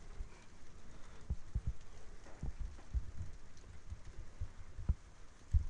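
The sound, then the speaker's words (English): Rain falls steadily outdoors, slowly getting heavier, recorded on Tascam microphones: a soft continuous wash with scattered heavier drops tapping and thudding at an irregular pace; no voices are heard. “Well, rain is still coming down, slowly getting heavier, which I hope means the thunder's on its way.”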